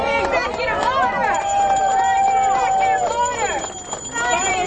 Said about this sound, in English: Well, there you hear the crowd of progressives chanting, sign the executive order, sign the executive order.